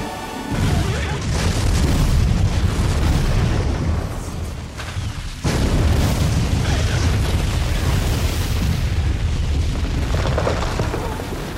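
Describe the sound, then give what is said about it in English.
A huge explosion in a movie scene roars in with a deep, sustained rumble, then the same blast hits again, loud, filling the whole clip with heavy booming and crackling debris. No one speaks. “there's entertainment value watching that explosion over and over and over”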